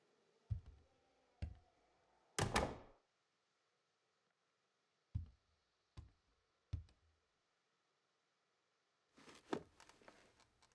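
A door is pulled shut with a sharp clunk, surrounded by a few scattered knocks and taps, then a soft rustling near the end amid otherwise quiet surroundings.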